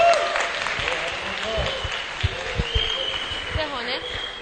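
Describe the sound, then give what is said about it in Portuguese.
An audience in Brazil claps steadily in a dense, continuous patter of many hands, moderately loud, with faint voices murmuring underneath, applauding a pioneer of book digitization. “Ele merece ser aplaudido, inclusive, porque foi um dos pioneiros aqui.”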